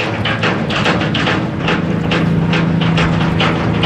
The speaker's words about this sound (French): Il fonce celui-là, hein, c'est un bateau de passagers, mais ça fonce drôlement, hein. Ça avance méchamment, hein. Ça tangue un peu, là, hein.